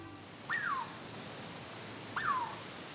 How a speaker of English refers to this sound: Does this sound like a bird? Actually, we're hearing the Douglas squirrel, a pint-sized chestnut-red native of forests west of the Cascade Rim.